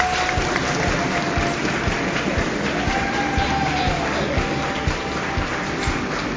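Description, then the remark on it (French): Loud, sustained applause from a large crowd, dense clapping filling the whole stretch with a few faint voices and whistles mixed in; audience at a live broadcast of the Okapi Service magazine in Chikapa, capital of Kasaï province, Democratic Republic of the Congo. “Est-ce qu'on peut encore applaudir très fort?”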